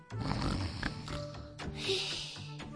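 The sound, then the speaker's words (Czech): A long, drawn-out, breathy and groaning yawn, swelling toward the end before trailing off, with no other sounds around it. “Dlouze zívnul a”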